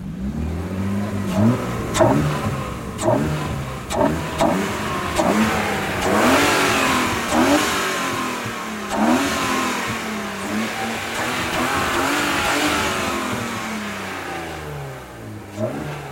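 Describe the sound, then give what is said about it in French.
A modified car engine revs repeatedly in sharp bursts, its pitch rising and falling with each blip, with a loud, gulping air intake roar, the intake drawing in air to mix with fuel for the injectors, over a rumbling idle; no one speaks. “J'ai fait quelques accélérations, donc on peut entendre l'admission qui avale l'air à grande gorgée et qui va le mélanger avec l'essence pour l'envoyer aux injecteurs.”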